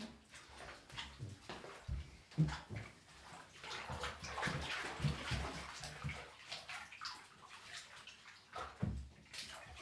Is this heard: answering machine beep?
no